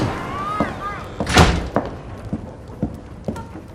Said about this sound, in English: He kicks the door shut and walks over to the fireplace.